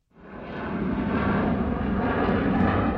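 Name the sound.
airplane engines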